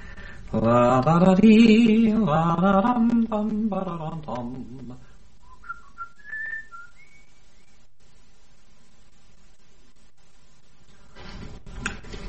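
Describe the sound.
A voice is heard at first, then a short, faint whistled tune of a few rising and falling notes follows in near silence, ending with a brief rustle.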